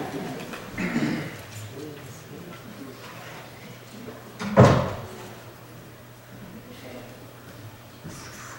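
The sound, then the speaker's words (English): A preacher shuts an open door during a sermon: one solid thud about halfway through, after some quieter handling and shuffling noises, with a low steady hum underneath. “So, anyway, having said that, I have an open door over here and it just drives me nuts. So, excuse me for a second.”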